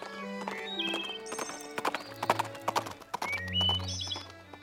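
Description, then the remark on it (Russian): Horse hooves clip-clop in a quick, steady rhythm, with a whinny rising among sustained tonal notes that hum underneath the whole time. “И вот однажды, днем осенним, когда листва в лесу кружит, с теплом прощается последним, в тиши раздался стук копыт.”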